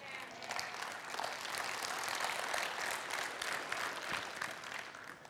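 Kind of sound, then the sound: crowd, audience clapping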